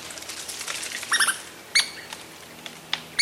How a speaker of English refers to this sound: Two sprightly Douglas squirrels chatter as they scamper up a tree trunk.